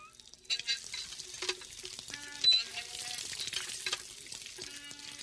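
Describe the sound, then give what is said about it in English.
Water splashes and gushes steadily while a woman washes in public under a hand-cranked water pump in the Dalit quarter of a village, with scattered clanks and faint metallic squeaks over the continuous hiss. “washing under the pump”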